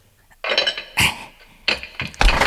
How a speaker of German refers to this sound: Seht doch, der Mann flüchtet. Der hat den lauten Türriegel gehört.